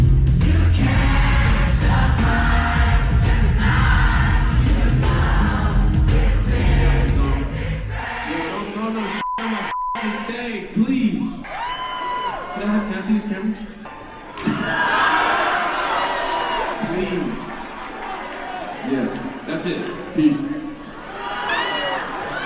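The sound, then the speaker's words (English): A loud, dense concert crowd in New Orleans roars and shouts as the performer smashes a disposable camera that hit him on stage, then thins into a jumble of yelling voices and scattered cheers, with a brief sharp crack partway through. “they're saying that he actually did smash a disposable camera that hit him and bounced off of him on the stage and landed in the crowd.”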